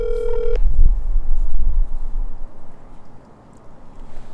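A single short ring tone of an outgoing phone call sounds at the start, a steady mid-pitched buzz lasting about half a second, followed by low rumbling thumps and quiet line hiss.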